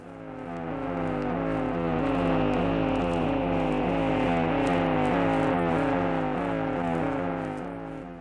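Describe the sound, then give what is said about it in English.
Cold War Russian radio jamming noise blotting out Western broadcasts to the Soviet sphere in Europe. A loud, continuous buzzing drone with a rapid, repeating warble cycles steadily for about eight seconds, harsh and mechanical, with no voices. “In this program, we should like to tell you something about the battle in the ether, where the Cold War is being fought on the radio waves, and why it is that the Russians are trying to blot out Western broadcasts by an iron curtain of the ether.”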